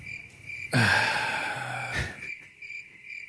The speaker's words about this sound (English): Crickets.